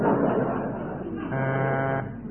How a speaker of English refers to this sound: That's a buzzer. That's a very thick horn.